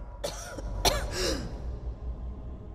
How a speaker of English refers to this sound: a woman coughing up blood.